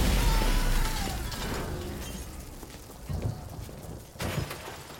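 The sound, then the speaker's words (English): A lightning strike sound effect as the tower card is played: a loud, booming crack that rumbles and crackles as it fades, followed by two sharper sizzling bursts near the end. “Card of destruction. Card of doom. Lightning strikes to seal your fate!”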